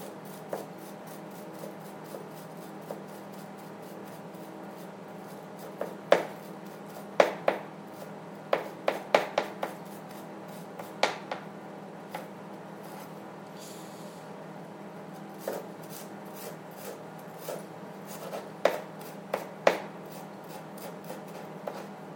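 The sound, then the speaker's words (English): A knife chops a single layer of onion on a board into very thin slices in a run of sharp, irregular taps, some clustered quickly, others spaced apart, over a steady low hum with no talking. “chopping the onion, and I will be running out of time on this boom, but yeah, I mean, this is producing really thin, easy to marinate slices of onion.”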